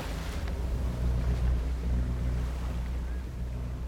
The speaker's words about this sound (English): the oblivious fishermen start up their motor.